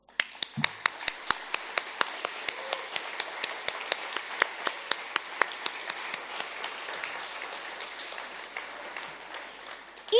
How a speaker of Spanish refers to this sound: Fíjense cuántas mujeres tenemos acá. ¿Qué vamos a hacer? Les vamos a dar un aplauso.